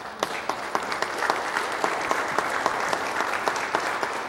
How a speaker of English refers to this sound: To the moms among us, I think we could give a round of applause. To God be the glory for moms.